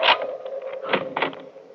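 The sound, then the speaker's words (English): A bedroom door being unlocked: a sharp metallic click, then a couple more rattling clicks of the latch a moment later, over a faint steady hum with no voices. “Oh, just a minute, I'll unlock the door.”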